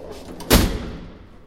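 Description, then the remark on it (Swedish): A heavy building entrance gate door swings and shuts with a single loud, resonant clunk that rings out briefly, preceded by a few quieter rattles of the latch and hinges, as someone goes in through the gate. “Nu ska vi se om vi kommer in genom porten här. Klick, sa det.”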